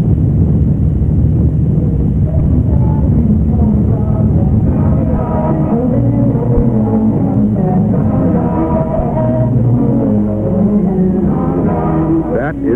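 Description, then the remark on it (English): A ship's engine rumbles low and steady throughout on the Mersey River, a wide estuary leading to the deep sea port of Liverpool, while gulls cry in scattered, wavering calls above it, growing more frequent in the second half. “This is what the Mersey Sound used to be, the cry of gulls and the rumble of a ship's engine on the Mersey River, a wide estuary leading to the deep sea port of Liverpool.”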